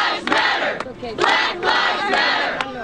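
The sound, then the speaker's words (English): A large crowd of demonstrators at a rally in Washington, marching from near the White House to the Capitol to protest police shootings, shouts and chants in loud, overlapping surges, with rhythmic bursts of many voices rising and falling in waves every second or so. “Hundreds of demonstrators gathered near the White House, then marched to the Capitol to protest the police shootings this week of Alton Sterling in Louisiana and Philando Castile in Minnesota.”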